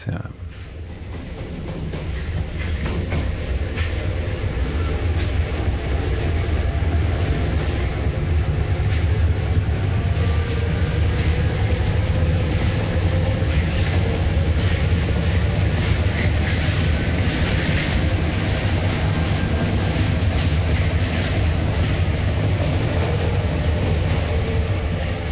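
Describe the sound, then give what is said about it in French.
Steady rumble of a metro train in motion, a loud, continuous low roar with rattling and hissing layered on top, holding constant for the whole stretch with faint indistinct voices blended in. “on est dans le métro.”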